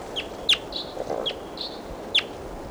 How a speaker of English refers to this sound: Stop. Recording, here's a wild bird again.